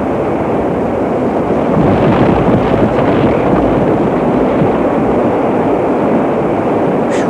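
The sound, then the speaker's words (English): A barge's engines roar steadily at full astern as the barge is rammed aground on a beach, a dense, unbroken rumble with rushing water or wind noise layered on top, swelling slightly around the middle before holding level to the end. “Ram the ground with all you've got so it'll stay until it's burned out. Hold tight for the shock. Engines are full astern.”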